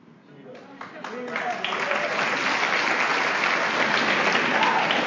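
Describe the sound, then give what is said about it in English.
Audience applause at a recovery meeting, for members celebrating a year or more of sobriety, builds over a few murmured voices, then settles into a loud, steady wash of many hands clapping that holds to the end. “We'll hold our applause until the end.”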